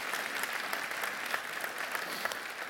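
An audience applauds steadily, a dense wash of many hands clapping at an even, moderate loudness with scattered sharper claps standing out. No voices are heard.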